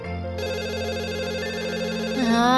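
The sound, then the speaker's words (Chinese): A telephone rings late at night with a steady, warbling electronic trill that repeats rapidly, loud, lasting a couple of seconds with no voices. “这么晚了，又是谁打电话来呀？”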